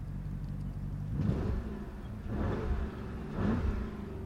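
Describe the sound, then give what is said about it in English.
The 4-litre engine of a Porsche Cayenne Turbo GT SUV, recorded with the microphone out the window in a fairly empty car park, idles with a low, steady rumble, then revs sharply three times in quick bursts about a second apart, each settling back to idle. Loud, no voices. “That's 4 litres of Porsche Engineering, and we're going to take it on the road.”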